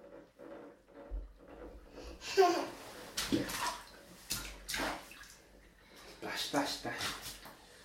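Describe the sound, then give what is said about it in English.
Water sloshes and splashes in a bubble bath in irregular bursts as a child splashes, moderately loud, with soft voices talking intermittently underneath. “How's the bubbles going?”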